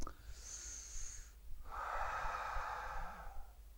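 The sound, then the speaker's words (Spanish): A person imitates taking a deep drag on a cigarette, holding no real cigarette: a thin, hissy intake of air, a brief pause, then a longer, deep breathy inhale, with no talking. “Entonces, cuando toma un cigarro, imaginen que tengo un cigarro entonces ahora mismo en mi mano, y yo hago una respiración profunda al fumar, así.”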